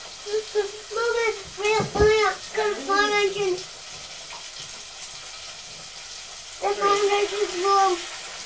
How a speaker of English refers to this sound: We're going to pop it in the oil now, so there might be a bit of a... Just for a minute.